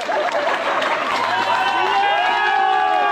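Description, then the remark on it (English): A large crowd of police officers and members of the public applauds and cheers loudly and continuously as a wounded Lakewood police officer leaves the hospital in a wheelchair in Metro Denver, with sustained whoops and raised voices layered over dense clapping that holds steady throughout. “exited the hospital in a wheelchair and was showered with applause by fellow police officers and the public.”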